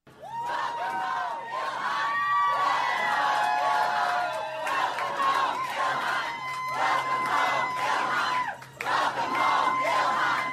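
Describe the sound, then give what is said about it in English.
A large crowd at Minneapolis St. Paul International Airport in Minnesota chants and cheers "welcome home, Ilhan" as Ilhan Omar arrives, voices rising and falling in steady, repeated loud shouts that continue throughout without a break. “What you're listening to is a crowd at Minneapolis St. Paul International Airport just moments ago when Ilhan Omar arrived back here in Minnesota, and you could hear the chants of welcome home, Ilhan.”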